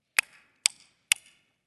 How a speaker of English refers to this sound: But not long thereafter, she hears a knock on the door.